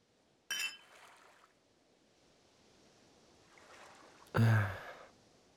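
Two glasses of beer clink together once, bright, near the start. A soft hiss lingers, then a louder rushing burst follows a few seconds later. Nobody speaks.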